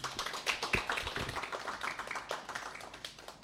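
A concert audience claps continuously to welcome an Irish harp performance, a dense patter of many overlapping hand claps at a steady, moderate level with no voices, the sharp individual slaps blurring into a sustained wash.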